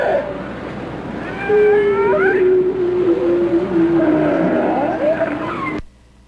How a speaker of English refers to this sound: So that's a short clip of a ring seal.